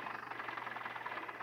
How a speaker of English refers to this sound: That car's not sounding good.